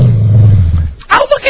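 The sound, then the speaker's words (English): Dogs growling at Fez's voice from the Ron and Fez radio show playing on the radio: a low, rumbling growl holds steady for about a second, then gives way to a few short, higher voiced bursts. “Your dogs were growling at Fez.”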